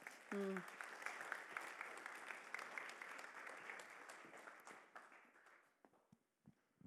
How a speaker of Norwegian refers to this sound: En applaus